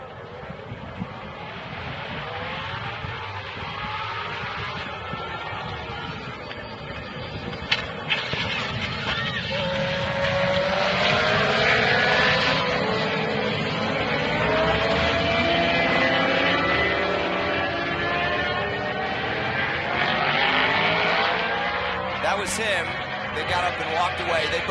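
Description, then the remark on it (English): Racing motorcycles speed along a track at over 100 miles an hour into a turn just after the start, their high engine whines rising and falling in pitch as they pass. Heavy wind rush runs throughout, with indistinct voices underneath. “I know that they were over 100 miles an hour going into that turn.”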